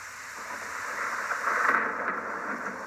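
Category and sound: nature, thunderstorm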